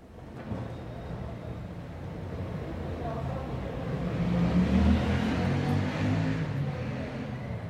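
Steady street traffic of cars rumbles throughout, and a motor van approaches with a rising engine drone that swells loudest midway before fading slightly as it passes.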